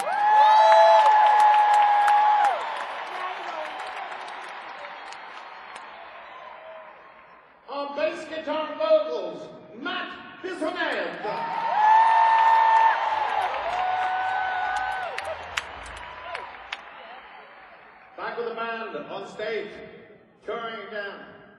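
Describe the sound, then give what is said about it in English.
A large concert crowd in Corpus Christi roars and applauds with piercing whistles as band members are introduced one by one, the cheer swelling then fading; a man speaks over a loudspeaker, and a second loud burst of cheering follows before he talks again. “You're going to give them a big Corpus Christi roar.”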